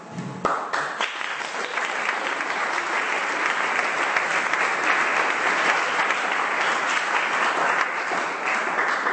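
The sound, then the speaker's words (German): An audience breaks into sustained applause, a dense, steady wash of clapping that holds at an even loudness for several seconds without voices over it. “Es gibt noch eine zweite Frage, aber danke schon mal für den Applaus.”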